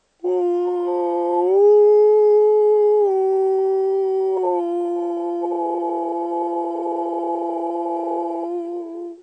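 A single long, loud howl holds steady for about nine seconds, its pitch stepping up and down a few times and turning rougher and breathier toward the end, with no other sounds around it.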